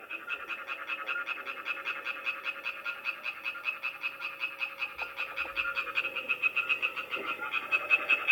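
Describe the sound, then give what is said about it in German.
A European tree frog on a hillside property in Ebikon near Lucerne, Switzerland, calls in a fast, steady series of rasping, bright croaks, pulsing rapidly for several seconds without pause and growing slightly louder toward the end. No one speaks. “Das ist der typische Ruf vom Laubfrosch.”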